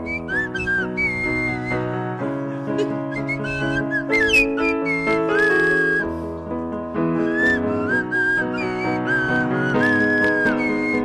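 A Swanee whistle played on a stage plays a bright, sliding pop melody over a full band accompaniment, its notes swooping up and down in clear phrases and staying loud throughout.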